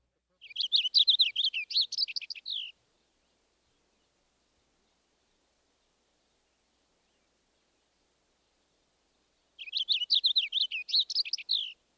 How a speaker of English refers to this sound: Next, the purple finch.